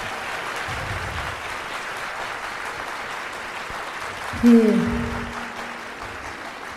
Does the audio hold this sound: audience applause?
yes